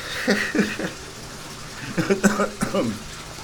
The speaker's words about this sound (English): So I'm here upstairs in my bathroom trying to blow my nose.